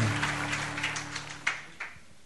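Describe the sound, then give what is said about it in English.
An audience claps together as a clap offering for the Lord, a dense, steady patter of applause that thins toward the end, with a low sustained tone humming beneath the first half. “Yes, let's give him a clap offering.”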